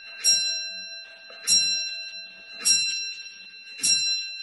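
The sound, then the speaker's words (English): A clock chimes four times at a slow, even pace, each bright metallic strike ringing out with a long sustained tone that lingers into the next. No voices are heard. “Here comes the clock.”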